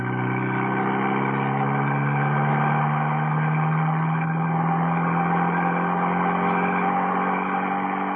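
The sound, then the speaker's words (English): A car engine drones loudly for the whole stretch, its pitch rising and easing slightly as it runs hard, with no voices. It is one of two cars racing up the main road towards the Tarragon Bullring. “Steed in the first. Well, they made it, just. Baron and Mrs. Peel in the second car.”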